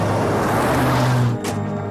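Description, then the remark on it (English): A car driving people back home with a steady low engine hum and broad road rumble, with a brief brighter whoosh or rattle near the end. “Jenny sits expressionlessly as they drive back.”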